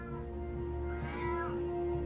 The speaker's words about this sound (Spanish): Escuchás el maullido del gato desde el piso del sótano.